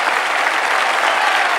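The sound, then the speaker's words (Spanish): An audience applauds loudly and steadily as the curtain opens and the actors take their bows, a dense wash of many hands clapping with no pauses or individual claps standing out, and no voices heard. “Michael aplaude emocionado.”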